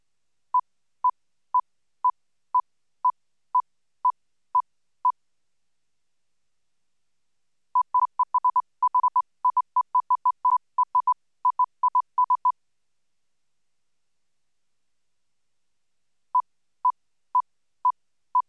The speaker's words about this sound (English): We present a target sequence of evenly spaced pure tones, then we camouflage their regular rhythm by interleaving them with irregularly spaced masker tones of the same frequency. The demonstration is presented twice.